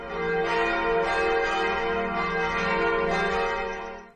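church bells ringing

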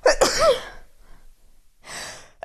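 sneeze into the microphone

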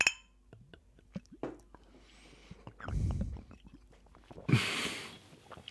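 glasses clinking

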